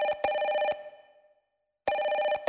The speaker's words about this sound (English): Anyone answer that phone?